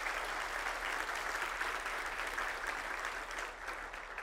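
An audience claps steadily for several seconds, giving the Lord a clap for their pastor of education, a dense, even wash of applause with no voices standing out, fading slightly toward the end.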